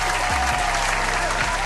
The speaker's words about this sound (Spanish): Oye, así que recibamos con un fuerte aplauso a mi tocayo